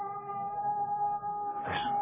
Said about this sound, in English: Listen. Come. Remember, we heard that cat howling the other night.